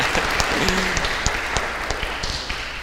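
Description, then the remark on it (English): Steady audience applause, a dense wash of many hands clapping with scattered sharper claps standing out, sustained at an even, fairly loud level throughout with no voices on top. “You can give her a round of applause, too.”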